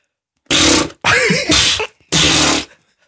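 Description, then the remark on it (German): A voice imitates a vaginal fart with three loud, airy, sputtering bursts; the middle one is longer and carries a wobbling, pitched buzz, with short pauses between them. “wie ist das beim Muschifurz? Wie klingt der? Könnt ihr das vormachen?”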